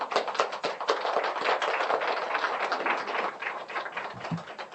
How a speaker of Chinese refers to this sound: 我很感谢你们，来给自己一个掌声。